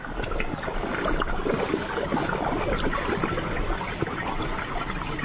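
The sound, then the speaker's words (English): Steady churning water bubbles and gurgles continuously from massage jets in an outdoor hot pot, a blue cement pool with water from 100 to 107 degrees Fahrenheit, a dense wash of sound with no voices. “Shaped like blue cement commas, they gurgle with massage jets at temperatures from 100 degrees Fahrenheit, like a bath, to a heart-pounding 107.”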